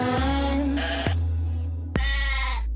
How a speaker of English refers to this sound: Ooh, was that a goat? I think that was.